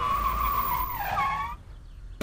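A loud tire screech as a police car skids to a halt, the squeal sliding downward in pitch before cutting off abruptly, followed by a brief thump.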